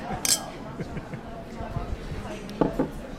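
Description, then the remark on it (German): Two quick, bright clinks of beer glasses knocked together in a toast in a foyer after a presentation, over a low murmur of people chatting. “Den habe ich nach der Präsentation im Foyer beim Bier getroffen. Prost.”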